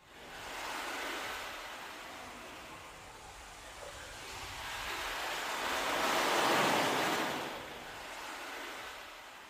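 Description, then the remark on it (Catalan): Ocean waves wash in and out in slow, steady surges, a broad hissing roar that swells to a peak and then recedes, with no voices. “El diable es va treure de sota la capa un gran cargol de mar i va dir: posa-te'l a l'orella i sentiràs el ritme de les ones del mar.”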